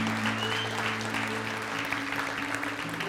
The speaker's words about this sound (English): And so as a corporate, collective, gathered people of God, can we just give a round of applause for what the Holy Spirit is doing right now? Yeah?